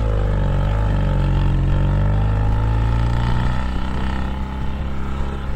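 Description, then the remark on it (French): A boat's engine drones steadily at sea as the boat sails from Port-Vendres, France, to Algeria in October 1958, a loud, continuous low rumble with a faint shifting hum layered above it and no voices. “Quatre jours plus tard, ils embarquent à Port-Vendres, près de chez eux, dans un bateau pour l'Algérie qui à l'époque est encore française.”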